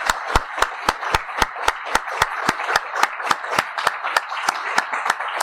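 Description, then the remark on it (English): Audience applause as a final thank you to Dr. Boyle, with sharp, evenly spaced claps standing out over a steady wash of clapping, keeping a quick, regular rhythm for several seconds, fairly loud and with no one speaking. “Oh, another round of applause and a final thank you to Dr.”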